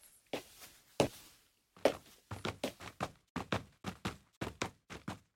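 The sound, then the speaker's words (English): Shoe footsteps of sampled shoes, from a footstep instrument plugin, on a hard surface, crisp: a few slow, separated steps, then a quicker steady run of about a dozen evenly spaced footfalls, with no voices. “It's a little akin to like a sample library of a piano or a drum set or something like that, except that instead of like drum hits or individual notes on a piano, it's all footsteps of various types of shoe on different surfaces.”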